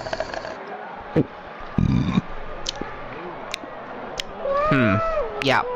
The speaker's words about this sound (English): Oh, meow. Cool cat.